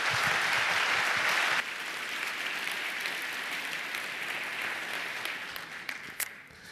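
An audience at a congress applauds steadily to welcome a speaker, a dense wash of many hands clapping that starts loud, drops slightly after a couple of seconds, and continues at an even level with a few sharper individual claps.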